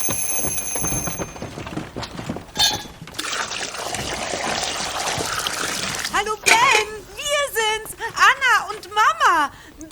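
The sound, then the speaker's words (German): A kitchen timer rings briefly, then a steady, loud rush of hot water pours out for a few seconds as cooked noodles are drained, before voices start talking. “Boah, die Nudeln sind fertig. Oh, schnell abgießen.”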